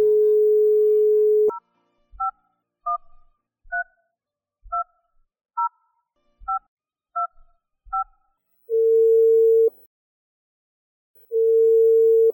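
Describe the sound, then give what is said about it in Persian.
After the telephone handset is picked up, a steady dial tone cuts off into nine quick touch-tone beeps as a number written in the corner of a picture is keyed, followed by two long ringing tones on the line. No voices. “گوشک تلفن ورداشت و شماره را گرفت.”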